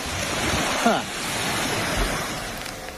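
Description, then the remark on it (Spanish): Ocean waves rush onto a beach in a steady, broad hiss and roar that fills the whole clip, with a faint voice briefly rising above the surf. “Se coge el trozo de playa.”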